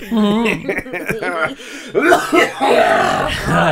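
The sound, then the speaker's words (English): A harsh, throaty cough breaks out in a few rough, raspy bursts, following a stretch of voiced, chuckling sounds, with voices present throughout. “That was a throat cough.”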